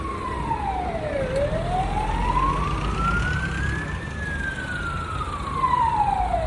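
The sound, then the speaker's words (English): An ambulance siren wails in long rising and falling sweeps, loud, over a steady rumble of street traffic with no one speaking, heard while a man is walking in a European city. “Oh, there's an ambulance coming.”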